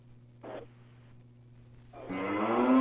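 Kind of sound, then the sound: animal, cow mooing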